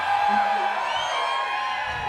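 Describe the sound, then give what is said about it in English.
An audience of people at the back of a room shouts together on request, a sustained burst of mixed yelling and whooping that fills the whole clip at moderate loudness. “Can I just get some people in the back of the room just to yell for the hell of it?”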